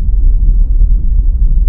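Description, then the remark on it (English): A reversed drum sound effect rises into a deep, steady rumble that fills the short stretch, dense and loud in the low end, holding at an even level throughout with no voices over it. “Drum reverses. Rises. Rumbles.”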